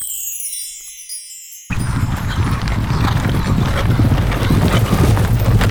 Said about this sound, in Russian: Но о Белом озере государь не забыл. И вот по преданию, возле трех озер однажды остановилась царская карета.